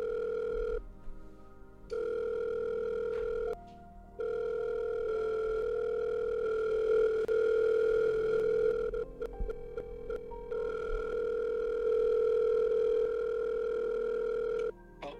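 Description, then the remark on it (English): A steady, buzzing telephone dial tone while placing a call to a woman holds a constant mid pitch with a higher overtone, cutting out briefly a couple of times before resuming, with no one speaking. “Let's call this woman.”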